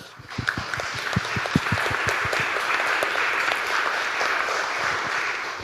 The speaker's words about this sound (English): The AV team has been fantastic. So thanks to the AV team as well. You get your own round of applause.